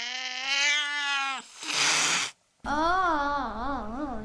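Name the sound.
cat meowing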